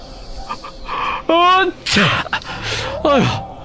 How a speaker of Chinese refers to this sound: 老大忍不住地打了个喷嚏。